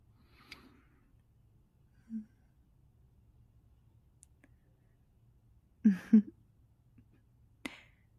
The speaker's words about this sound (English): My sweet boy. Such adorable little snores.